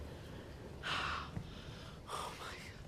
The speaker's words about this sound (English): jolts up in bed, panting. He rubs his eye as he catches his breath.